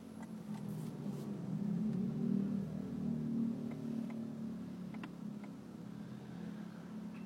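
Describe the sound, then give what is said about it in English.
A car engine rumbles steadily at low speed in barely moving traffic, a constant drone with slight swells as the car pulls forward into a lane, with no voices over it. “The car pulled forward. I can now get almost all the way into one lane now.”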